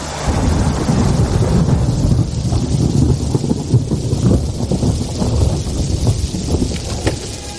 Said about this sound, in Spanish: Ah, y no olvides llevarte el chubasquero. Porque llover, lo que se dice llover, va a llover.